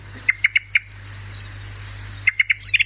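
A Eurasian blackbird gives sharp, repeated chip notes: four quick calls, a pause, then a faster burst ending in a rising chatter, clear over a low hum.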